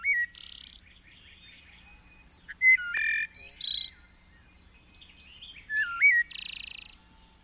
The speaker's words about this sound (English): Wherever you live, with the advent of spring, birds renew the world with song.